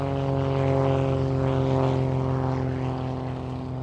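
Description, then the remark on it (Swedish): A 1930s propeller airplane drones steadily overhead across a desert landscape, its engine a loud, throbbing hum with a strong buzzing tone that swells slightly before easing off toward the end. No voices are heard. “Inte förrän militära och civila piloter passerar över ökenlandskapet med flygplan under 1930-talet.”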